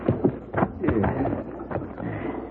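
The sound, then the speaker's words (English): Hooves of a ridden horse clip-clop at an uneven walking pace, a handful of hollow knocks over a steady outdoor rumble, with faint murmuring voices in the background. “Sure gonna feel good to get off this horse.”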